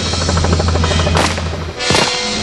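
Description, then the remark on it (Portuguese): A steady low motorboat engine drone runs throughout, broken by two loud, sharp gunshot blasts about a second apart, each with a brief noisy tail. The shots are fired from a speedboat as it rises on a wave. “Tenho que esperar a lancha subir numa onda para então disparar.”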